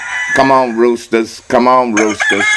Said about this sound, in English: So some of y'all not gonna wake up unless y'all hear the roosters. All right. Now, some of y'all already up, but you just not out to bed. So I'm playing these roosters.